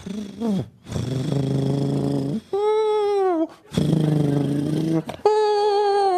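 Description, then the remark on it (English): A human voice imitates a sleeping cat snoring, a sound from a Radiolab show: two cycles of a loud, low buzzing rumble, each followed by a higher, wavering whistle-like tone that glides downward. “That was a sleeping cat from your show about”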